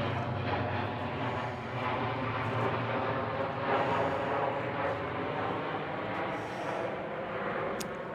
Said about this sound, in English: There's airplanes flying over, sorry about that. Oh. We'll wait that out.